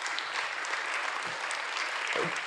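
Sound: audience clapping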